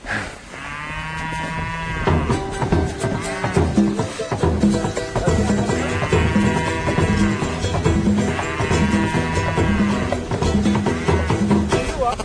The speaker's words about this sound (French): Là, on arrive dans un paysage. Voilà, j'allais le dire. C'est la Suisse. Des collines, des prairies et des vaches qui nous accueillent d'un beuglement.